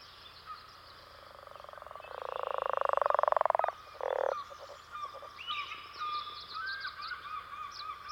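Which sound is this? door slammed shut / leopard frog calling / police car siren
leopard frog calling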